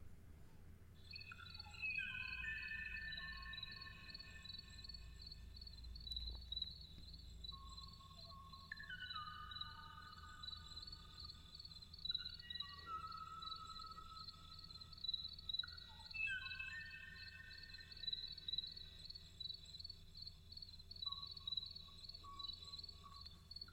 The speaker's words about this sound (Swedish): Som försökte då ropa efter någon typ av sällskap då... i en djungel långt, långt bort härifrån. Så pausar han ibland för att han väntar på att någon annan ska svara. Och det här är det sista ljudet från den sista fågeln av den här sorten. Lyssna.